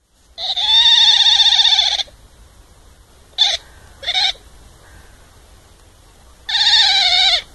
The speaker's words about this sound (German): Das war ein Otter.